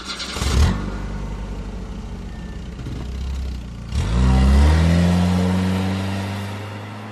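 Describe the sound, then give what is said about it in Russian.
A car engine idles with a steady low rumble, then revs sharply and climbs in pitch as the car pulls away, loud, with no voices; heard from the car's camera on 13 March at 23:22. “«Глеб, поехали, там с дедом что-то». Сигнал камеры, переход на камеру автомобиль субъекта.”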